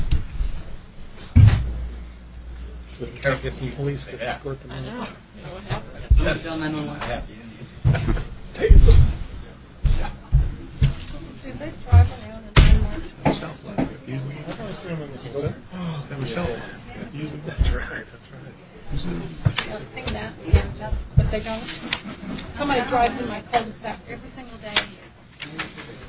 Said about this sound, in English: Yeah, let's pause a second because these people are having way too much fun and being too loud leaving.